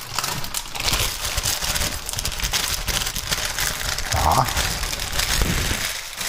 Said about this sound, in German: Ja, ihr hört jetzt richtig. Papier. Paper. So. Dann umklappen die Stulle.